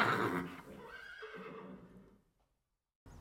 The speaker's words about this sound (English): It was a horse.